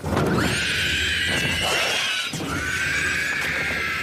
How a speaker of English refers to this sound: Here's a screeching ring wraith in The Lord of the Rings.